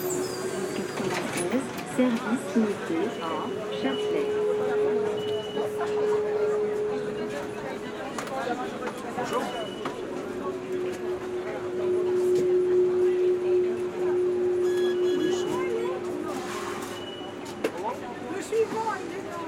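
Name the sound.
city bus arriving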